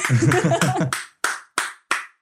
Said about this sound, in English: Oh, that is a Norteño clap if I've ever heard one.